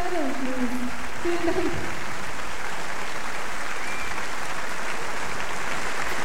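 A concert audience applauds after a duo performance with a drummer, recorded in East Berlin at the Friedrichstadtpalast on 3 June 1988. The clapping is dense and steady and holds at an even level throughout, while a few fading musical tones sound briefly at the start.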